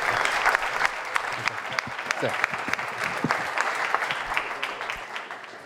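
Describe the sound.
A crowd claps steadily, dense overlapping hand claps filling the room at moderate volume for several seconds, with a faint murmur of voices beneath.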